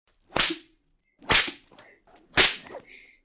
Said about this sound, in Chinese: 你这贱狗，看我怎么抽你！